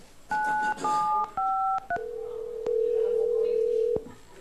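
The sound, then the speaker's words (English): Four quick telephone keypad tones sound in succession, each a brief two-pitch beep with the last one very short, then a single long steady tone holds for over a second against faint line noise. “You're going to use that cell phone or a different number.”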